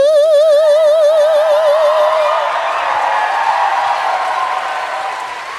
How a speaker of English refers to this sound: Now, I don't know where they learned to clap, but I taught them how to snap.